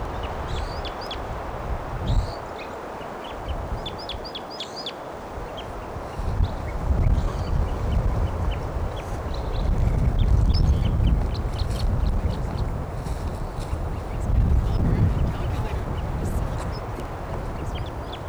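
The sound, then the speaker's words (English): A wild bird calls in quick bursts of short, high chirps, clearest in the first few seconds, then scattered more thinly over a steady low rumble of background noise. “Wild bird. Stop. Bird here.”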